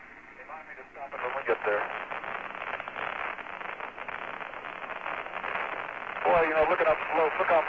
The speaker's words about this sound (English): The communication is rather staticky here. I'll try to repeat what Jim Irwin is saying.